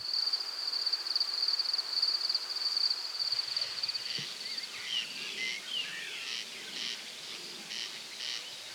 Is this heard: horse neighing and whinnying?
no